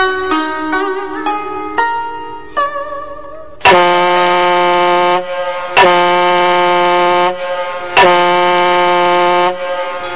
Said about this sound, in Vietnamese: Hồi còi tàu vang lên làm cho Tư Cầu thêm xót trong lòng